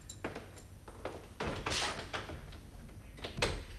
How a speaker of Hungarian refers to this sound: Maga bezárta az ajtót, Mr. Westerby? Be én, Mrs. Piper.